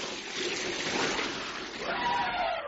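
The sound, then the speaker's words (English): An elephant sucks water up its trunk and sprays it at a cat in a steady, hissing gush that splatters, holding fairly loud for a couple of seconds with a faint gurgle near the end. “El elefante lento sucked water up its trunk and sprayed Nico.”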